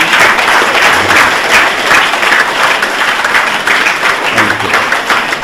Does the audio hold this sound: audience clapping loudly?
yes